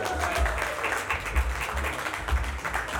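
An audience applauds steadily for three seconds, a dense wash of many hands clapping at once, fairly loud and sustained without breaks, with a low rumble of crowd noise underneath.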